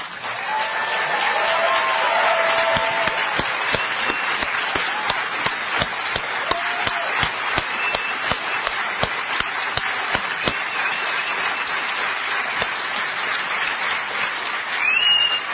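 Sustained applause from a large audience for a speaker brought back on stage after his speech, a dense steady wash of many hands clapping at once for about fifteen seconds, with occasional sharper individual claps standing out from the crowd.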